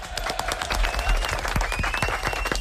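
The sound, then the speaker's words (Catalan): A group of people applauding, with dense, steady clapping that stays fairly loud for a few seconds without letting up. “Molt bé, un aplaudiment.”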